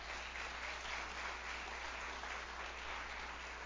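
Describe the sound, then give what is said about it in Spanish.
An audience applauds, many hands clapping in a steady, dense wash that holds for several seconds without building or fading, with no voices. “Dale el aplauso si se lo quieres dar.”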